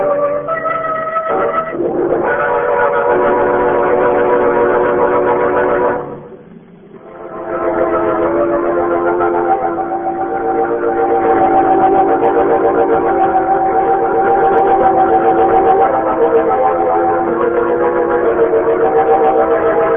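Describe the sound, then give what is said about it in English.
A train passes at a railroad crossing, a loud, steady rumble layered with sustained horn-like tones that briefly drop away partway through before surging back. No one speaks. “A man in the road, waving a lantern. Of course, Margot. It's a train crossing.”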